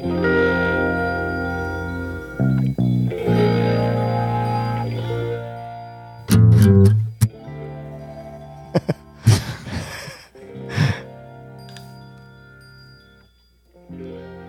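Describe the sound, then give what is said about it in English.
Bright chimes ring out within a song, their metallic tones layered over sustained musical backing, with several sharp, clear strikes standing out near the middle and a softer tail at the end. “Yes, those chimes. It's nice.”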